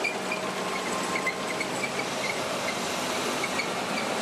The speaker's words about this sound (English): Oh, man, there's nothing quite like the sound of tracked armor. And that's an Abrams rolling by the grandstand.